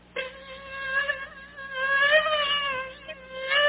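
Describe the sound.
A voice imitates a mosquito's whine: one continuous, nasal, high-pitched buzz lasting a few seconds, its pitch wavering and swelling slightly before dipping and rising again at the end.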